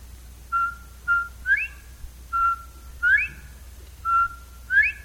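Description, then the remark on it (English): A person whistles an imitation of a bobwhite quail call three times, each a pair of short flat notes followed by a sharp rising whistle, clear with steady low background rumble. “Do a little Bob White for you.”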